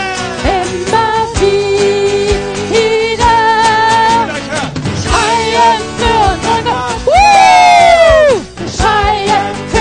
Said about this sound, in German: Wir springen für unseren Gott. Immer wieder. Wir schreien für unseren Gott.